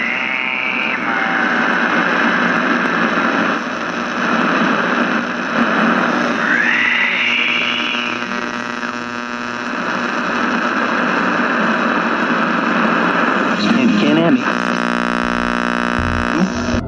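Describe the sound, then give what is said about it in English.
Loud, steady radio static hisses and crackles from a speaker for the whole stretch, with warbling electronic tones and a rising whine sweeping through the noise. No one talks. “The radio explodes into life again, static, hissing out of its speaker, and also a voice that comes through.”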